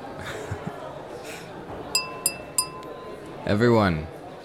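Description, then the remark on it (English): Three quick, bright taps on a glass ring out over a low murmur of party guests, each leaving a short chime, tapped to get everyone's attention, before a voice briefly sounds. “Would you pass me that glass, please?”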